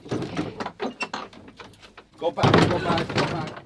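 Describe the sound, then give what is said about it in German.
A padlock on a wooden door in Ireland rattles and clicks through a run of short, fumbling metallic knocks as it is laboriously unlocked, then the wooden door bangs and scrapes open with a louder, fuller thud. A voice murmurs faintly underneath. “Schließt umständlich das Vorhängeschloss auf, das die Holztür versperrt.”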